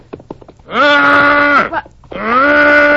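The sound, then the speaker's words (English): A voice imitates a calf's bawling call in two long, loud, sustained moans with rich harmonics, the first rising then holding steady, the second starting after a short pause, preceded by faint clicks. “It was just a kind of a call of a lost calf.”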